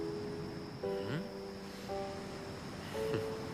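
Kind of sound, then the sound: nature, sea surf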